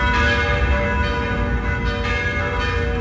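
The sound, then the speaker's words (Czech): The bells of all the churches in Prague ring together in a dense, continuous wash of overlapping tolls and lingering hum, steady and fairly loud throughout, with no voices. “Začaly znět zvony všech pražských kostelů.”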